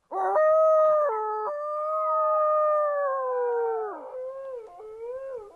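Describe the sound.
A person imitates a coyote, letting out a long, loud, wavering howl that holds steady, then slides and breaks into short yips near the end, with no other sounds around it.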